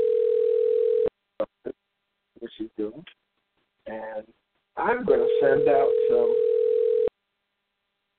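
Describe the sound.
A steady telephone dial tone hums for about a second, breaks off, then returns beneath a few short bursts of talk and holds for roughly two more seconds before cutting out.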